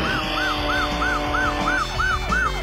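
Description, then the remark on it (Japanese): A police siren in the arcade car chase video game Taito Chase H.Q. Plus S.C.I., set in New York, yelps in rapid rising-and-falling cycles, about three per second, loud and steady over a low engine rumble, with no voices, as police chase a fleeing criminal's car. “ニューヨークを舞台に逃走する犯人の車に追いつき体当たりで止める迫力のカーチェイスだ。もちろんグラフィックや音声まで忠実に移植されている。”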